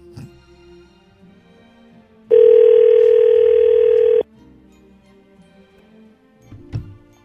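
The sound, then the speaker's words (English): A single loud, steady ringback tone sounds for about two seconds on an outgoing phone call, flanked by quiet line noise and a faint click near the end. “This angry ring.”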